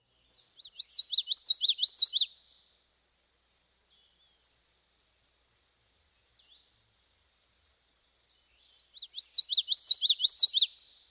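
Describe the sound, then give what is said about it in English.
A common yellowthroat sings its rolling witchity-witchity song twice, each phrase a bright run of about two seconds of quick repeated notes, separated by a long quiet gap. “Now let's hear the typical witchity witchity song one more time.”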